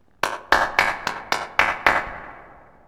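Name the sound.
hands clapping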